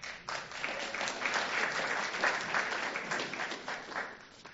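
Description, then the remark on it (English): A crowd applauds steadily for several seconds, a dense wash of many hands clapping at an even, sustained level with no voices rising above it. “Might want to leave the applause or otherwise till after this, you never know.”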